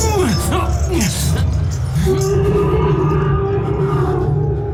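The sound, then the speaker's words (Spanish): A loud beastly roar of a white ape in the film John Carter, with sweeping, wavering pitch, followed by a long sustained growling bellow, over a dense rumbling background. “¿Es un Bant? No. Es un mono blanco.”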